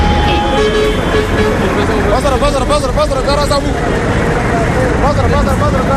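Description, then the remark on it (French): A car horn sounds in busy street traffic, with a steady honk at the start and warbling toots later, over constant engine rumble and the babble of voices. “Mais une fois que tu klaxonnes, l'attention est là.”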